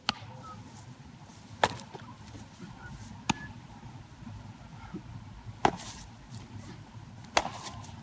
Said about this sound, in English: every day for hours, that was the sound of summer, was like the sound of a ball getting into a glove.